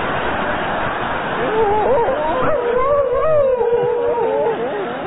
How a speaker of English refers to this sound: Dog's called Fluffy, by the way. Isn't that the dog that sings, Graham? It's the famous singing dog, it's Fluffy.